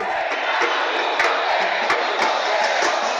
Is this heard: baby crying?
no